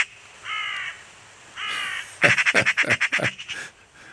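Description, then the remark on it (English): Two harsh, rasping caws from a carrion crow, spaced about a second apart, followed by a loud burst of rapid, rattling, machine-gun-like chatter from a magpie; no one speaks. “The machine gun sound of a magpie and the harsh sound of a carrion crow.”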